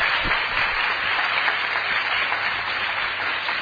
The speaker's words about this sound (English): Big applause for the excellent, excellent presentation.